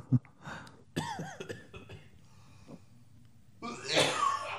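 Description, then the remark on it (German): Harsh, very close coughing right up against a microphone: a sharp burst early on, quieter breathy noises, then a longer, louder rasping cough fit near the end. “Vielleicht hust du auch nicht direkt ins Mikro, das wäre halt schön, weil ich nämlich dann auch deinen Husten 3D im Ohr habe.”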